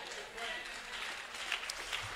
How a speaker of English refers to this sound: the claps are getting less and less. They're getting less and less, and that's okay, because I want you to contemplate what I'm saying.